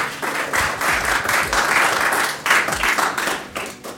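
Steady audience applause at the Fintech Week, closing a conversation with a guest, a dense wash of many hands clapping with small swells in loudness, continuing without pause throughout and with no voices standing out.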